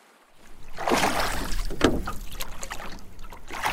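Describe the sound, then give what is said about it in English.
A boat made of scrap wood lowered into water: a steady wash of splashing and sloshing swells up after a brief quiet start, with a sharp knock partway through, fairly loud. “I imagine as they lower their boat into the water, they feel the weight of their decisions, all here, all made of scrap wood and built on faith.”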